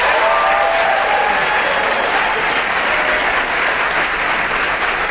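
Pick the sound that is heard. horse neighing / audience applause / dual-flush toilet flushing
audience applause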